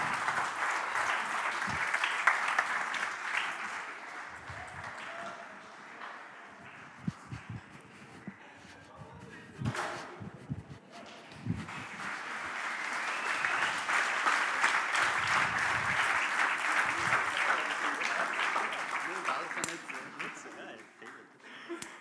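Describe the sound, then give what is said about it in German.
Sustained audience applause, a dense crackling wash of many hands clapping that swells, dips briefly around the middle, then builds again, with a few scattered voices mixed in. “Ich würde sagen, am Applaus, den ich gehört habe, sie haben die Mutprobe bestanden, oder?”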